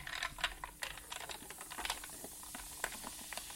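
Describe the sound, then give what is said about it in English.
A fizzing mixture of lemon and sugar being stirred, with a dense, irregular crackle of tiny pops and light clicking taps, fairly quiet and steady throughout, with no one speaking. “Okay, now I'm going to stir all that together.”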